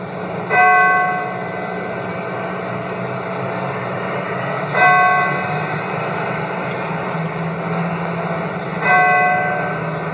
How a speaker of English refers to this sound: He's doing what countless other priests, ministers, and rabbis, not only in Houston but across the state, are doing today. They are remembering and praying and getting ready to ring the bells, as you can hear.